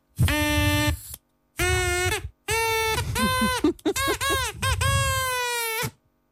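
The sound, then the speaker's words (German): A buzzy, reedy drinking-straw horn blows in five or six loud bursts, its nasal wail jumping and sliding higher in pitch as the straw is snipped ever shorter with scissors while it sounds. “Ich schneide die Tröte hat jetzt noch die volle Länge, und jetzt schneide ich sie, während ich reinblase, schneide ich sie immer weiter ab, dass sie immer kürzer wird.”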